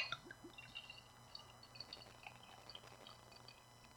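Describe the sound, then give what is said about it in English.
Lagunitas beer of 11.7% ABV pouring softly into a glass, a quiet steady trickle with faint fizzing and a few small drips, with no talking. “And we're going to pour.”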